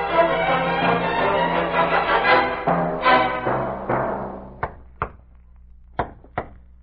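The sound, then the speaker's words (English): A dense, tonal swell fades out, then someone raps on a door: four sharp knocks in two quick pairs, with a short pause between them. “Open the door, Eddie.”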